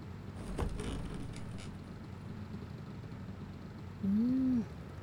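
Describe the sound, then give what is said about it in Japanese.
A steady low engine rumble fills the interior of an old bus, with a few faint clicks and creaks early on and a brief tonal whine rising and falling near the end. “なかなか年季の入ったバスだね。”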